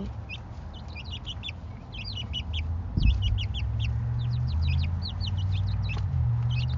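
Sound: chickens clucking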